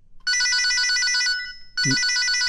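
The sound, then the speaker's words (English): A cell phone rings loudly in two bright, trilling bursts separated by a short pause, with a soft low thump as the second ring begins. No one speaks. “First, should you get this call?”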